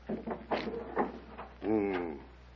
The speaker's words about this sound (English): Here, the door to Timur's quarters.